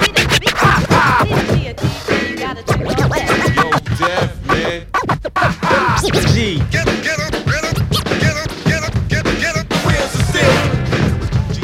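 Loud, continuous DJ turntable scratching: rapid back-and-forth record sweeps that bend sharply up and down in pitch, chopped into quick rhythmic bursts over a punchy beat for about twelve seconds.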